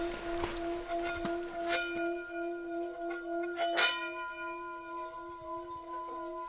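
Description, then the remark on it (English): A genuine Tibetan singing bowl made from a number of metals rings as a stick is moved around its rim, giving a steady, shimmering hum of layered overtones that sustains throughout, moderately loud, with a few soft knocks and scrapes along the way. “Yeah, this is a genuine Tibetan bowl made from a number of metals.”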